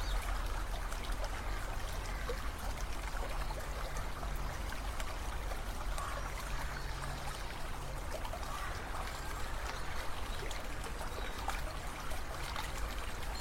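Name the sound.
water flowing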